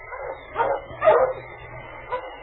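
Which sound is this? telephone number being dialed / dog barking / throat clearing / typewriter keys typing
dog barking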